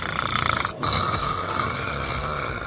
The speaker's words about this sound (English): Sawing logs, what does that mean? Like, peeling paint, friggin' just snoring so loud nobody can sleep. Nobody else can sleep in the room with him.